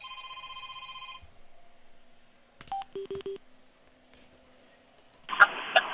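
An incoming phone call rings with a steady electronic tone, followed by a quick run of short beeping tones and a brief burst of noise, as if the line connects. Nobody speaks.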